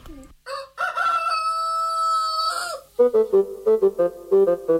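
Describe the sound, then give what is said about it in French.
A rooster lets out one long, loud crow that rises and holds before breaking off, followed by a quick series of short, rhythmic clucks. “Quel animal fait ? Kikiriki. En allemand. Je te donne un indice. En français, on dit ? Cocorico.”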